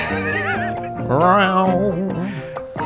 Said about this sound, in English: But check the guitar bit. It's all about the guitar. One note.